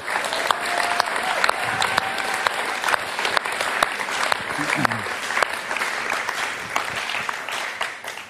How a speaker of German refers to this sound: Und ich finde, wir sollten Jesus an der Stelle nochmal einen fetten Applaus geben, was hier gerade am Start ist hier.